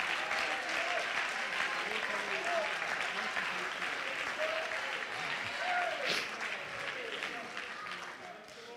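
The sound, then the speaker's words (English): A crowd claps steadily and loudly, with voices shouting and cheering throughout, a dense sustained wave of applause and calls that fades slightly near the end. “Oh, could you clap your hands and shout with your voice?”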